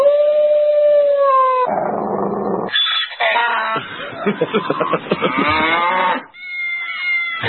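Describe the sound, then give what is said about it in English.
A loud, drawn-out dog howl, played as the 'dog of the week' sound effect on the radio show Morning Sedition, opens a rapid string of cut-together animal cries, including lowing, moo-like calls and rising yelps, with no talking. “You're the dog of the week.”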